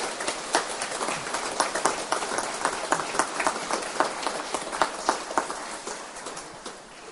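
A crowd claps steadily for several seconds, a dense patter of many hands with a few sharper claps standing out, then gradually thinning and fading toward the end; applause for Brezje, the Slovenian national Marian shrine.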